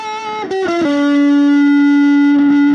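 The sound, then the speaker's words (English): Heavily distorted electric guitar plays a few quick sliding notes, then holds one long, buzzing sustained note that rings loud and steady to the end, with no voices. “let's hear you play with some different levels of distortion.”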